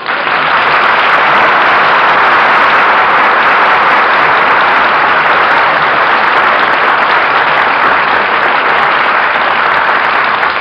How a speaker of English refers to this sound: Well, what are you applauding for, Stu? Oh, that fella you were talking about. Bring him on in.